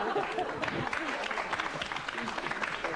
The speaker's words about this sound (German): Den Beifall bei den Männern zu urteilen, wollen die also, alle wieder zu den Männerclubs zurück.